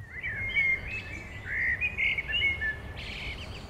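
A bird chirps continuously in quick, high-pitched tweets and short trills, fairly close and clear, with a faint low background rumble and no voices.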